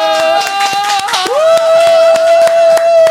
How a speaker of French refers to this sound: Je rappelle, est-ce qu'on peut, les amis, applaudir pour notre nouveau docteur?